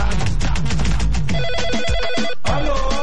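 A phone ringtone for an incoming WhatsApp call plays loudly and continuously, a repeating electronic melody of bright tones with no one talking.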